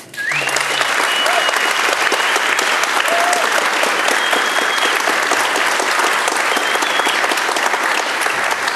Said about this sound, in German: Herzlichen Applaus.